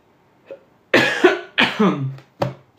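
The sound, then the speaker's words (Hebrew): A person coughs repeatedly: a faint small cough, then a burst of three or four harsh, wet coughs in quick succession, ending with one sharper cough. “אני צולל, אתם שמים לב שאני צולל, אני ממש טובע היום, אני לא יודע מאיפה כל השיעולים האלה.”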